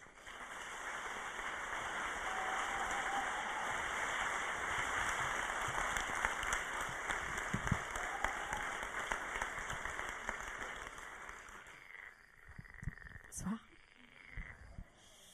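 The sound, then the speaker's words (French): Sustained applause from an audience welcoming singer and actress Carmen Maria Vega, a dense crackle of many hands clapping for about twelve seconds before thinning out into a few scattered claps and quiet. “Merci de l'applaudir très fort, Carmen Maria Vega.”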